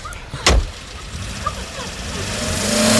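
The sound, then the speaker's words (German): A car speeds away in a hit-and-run: after a single sharp thud, the engine revs up into a steady, rising low rumble that grows louder toward the end. “So eine Frechheit. Diese Fahrerflucht.”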